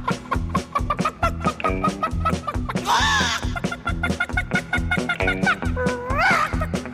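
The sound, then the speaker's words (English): A voice imitates a panicking chicken running from a cockerel chasing it, letting out rapid, choppy clucks in a steady stuttering rhythm with a couple of higher squawking bursts, loud, with no other talk. “The chicken was panicking a little bit, and he was going.”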